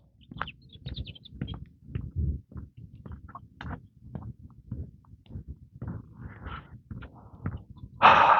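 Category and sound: bird, bird chirping loudly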